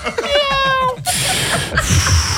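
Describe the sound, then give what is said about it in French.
A person imitates a street-walking cat smoking a cigarette with one drawn-out, wavering meow, followed by a burst of broad, hissy noise that continues to the end. “C'est pourquoi, pendant les 5 prochaines secondes, je vais faire le bruit d'un chat qui fait le trottoir et qui fume une clope.”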